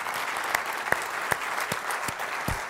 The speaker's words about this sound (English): I think we should give a round of applause.